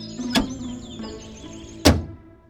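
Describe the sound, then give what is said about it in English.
A door opens: a sharp latch click, a short pause, then a heavier thunk as it swings and knocks. Both sounds are clear, with faint chirping in the background. “Open the door and come in," says the grandmother.”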